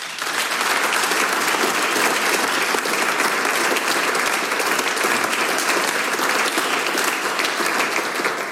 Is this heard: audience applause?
yes